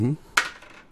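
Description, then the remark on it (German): Dice are rolled again onto a hard surface: one sharp clack followed by a few faint ticks as they settle, right after a brief trailing bit of voice. “Ich würfel nochmal.”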